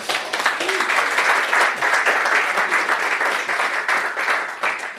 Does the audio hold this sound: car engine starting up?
no